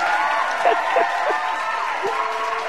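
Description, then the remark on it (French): An audience applauding warmly, a dense and steady wash of clapping that fills the whole moment, with crowd voices and a few cheers mixed in. “Je vous demande, tout le monde à l'unisson, d'applaudir chaleureusement”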